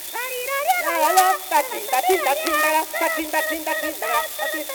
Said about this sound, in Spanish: si le dice a estos bebés que no metan tanta bulla que estoy componiendo.